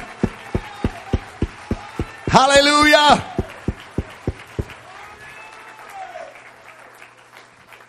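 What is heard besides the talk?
audience clapping hands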